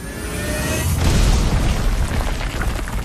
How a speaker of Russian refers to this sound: Гул'дан с грохотом разнес дверь на части. Теперь нужно было действовать быстро. Шум наверняка привлек внимание.